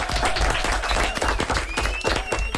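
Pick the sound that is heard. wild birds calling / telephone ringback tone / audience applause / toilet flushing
audience applause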